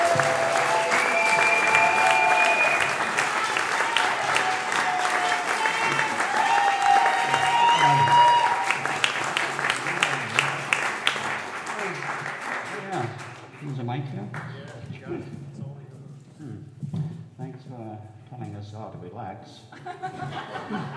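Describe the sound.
Sustained applause from a large audience at Carnation Tree Farm during a Carnation centennial celebration, welcoming the farm's owner: dense and steady clapping mixed with some chuckles and cheers, fading out after about thirteen seconds into scattered murmurs and a voice beginning to speak.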